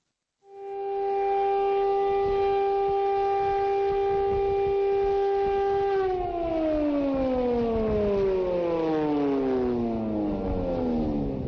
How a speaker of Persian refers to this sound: هر سال به مدت 2 دقیقه این آژیر در سرتاسر اسرائیل به صدا در می آید و مردم با شنیدن آن در هر جا که هستند به احترام می ایستند. به احترام میلیون ها یهودی که در طول جنگ جهانی دوم توسط نازی ها کشته شدند.